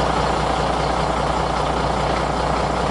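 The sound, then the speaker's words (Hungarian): A large bus running on pure bioethanol idles steadily, a constant low rumble with a broad mechanical hum that holds even and unbroken throughout, with no voices. “A jármű tiszta bioetanollal megy, ugyanúgy kell üzemeltetni, mint egy dízel autóbuszt.”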